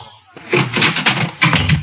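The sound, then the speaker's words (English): A door bangs shut in a house at 3 o'clock in the morning, a loud, heavy thud followed by a few more rattling knocks and bumps over about a second and a half. “I heard something! It sounded like a door slam!”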